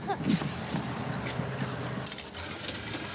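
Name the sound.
city bus engine running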